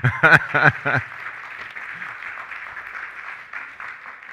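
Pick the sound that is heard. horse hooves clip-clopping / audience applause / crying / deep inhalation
audience applause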